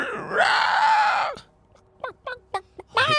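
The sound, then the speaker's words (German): A creature lets out a long, loud, strained scream, followed by a few short sharp yelps and another anguished cry, with no talking. “Nee, es schreit weiter gequält.”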